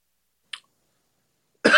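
A single short, close cough breaks a near-silence, preceded a second earlier by a faint, brief click-like breath sound. No one speaks.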